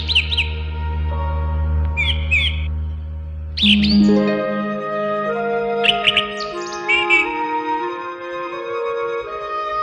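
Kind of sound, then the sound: bird, sparrow chirping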